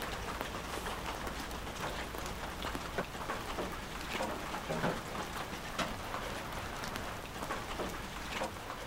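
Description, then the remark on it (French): Steady rain falls outdoors, a dense continuous hiss of drops with scattered louder patters and splashes, even throughout, with no voices. “Et t'as la pluie, bon si t'as des bruits automatiquement, mais si tu veux c'est que de la nature”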